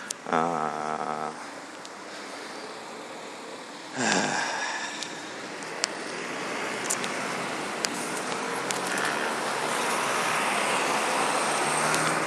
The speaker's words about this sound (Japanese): 今日はやけに車の量が多いな。気のせいか。